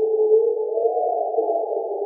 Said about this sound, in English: I heard the hyenas yowling. I heard the frogs. I think there were some bats. I could hear bats then.